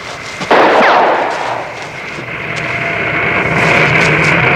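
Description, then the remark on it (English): An airplane takes off: a sudden loud burst gives way to a steady, rushing engine roar with a high whining tone that builds toward the end. No one speaks. “They're taking off without us!”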